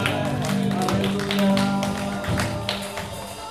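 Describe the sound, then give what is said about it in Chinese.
A church audience applauds, giving a round of applause to the Lord during Christian worship, with dense, steady clapping that holds for several seconds, over sustained low musical tones that continue underneath. “我们感谢你，我们归荣耀给神，哈利路亚，给主一个掌声啊！”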